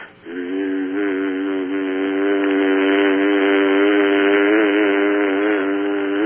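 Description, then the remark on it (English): A steady, buzzing hum chant sung on one sustained pitch, voices imitating the drone of bees, held loud and unbroken for about six seconds after a brief start. “Mimicking the sound of the bees.”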